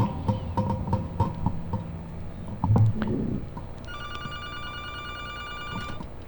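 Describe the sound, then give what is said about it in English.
A telephone rings with a steady electronic tone as a call comes in to the Free Radio Santa Cruz station. The ringing starts partway through and holds to the end, following a stretch of clicks, clatter and handling noise. No one speaks. “And here is a phone call coming in.”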